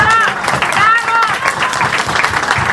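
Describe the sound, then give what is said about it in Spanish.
A crowd applauds loudly and steadily for a guest doctor who came from Jerusalem, with cheering voices and a few whistles rising over the dense clapping throughout. “Queremos un aplauso gigante que se escuche hasta en Jerusalén.”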